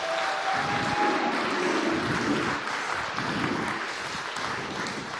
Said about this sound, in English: Can we give him a massive round of applause?